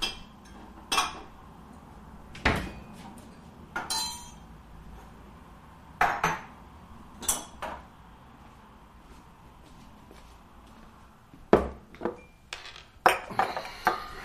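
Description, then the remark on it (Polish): Glassware clinking and clattering at irregular intervals as martini drinks with ice are prepared, with sharp bright taps and knocks of glass and ice, no voices. “Napijesz się czegoś? Może odrobinę martini. Z lodem? Oczywiście.”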